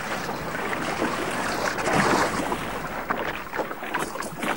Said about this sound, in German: Die anderen staunten mal wieder, wie sicher sie den Weg zur Insel durch die Felsenriffe fand. Nirgends anstieß und sie mit dem Boot wohlbehalten in die kleine Landebucht glitten.